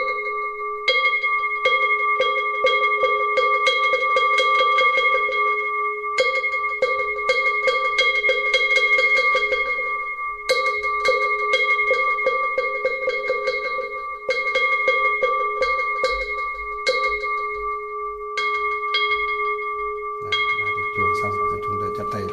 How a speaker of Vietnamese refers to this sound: Thì bây giờ thì bắt đầu vào thì chúng ta cho ba hồi chuông mõ như thế này đã.